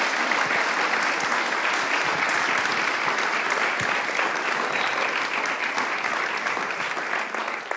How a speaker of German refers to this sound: Ich glaube, ihr kriegt einen donnernden Applaus.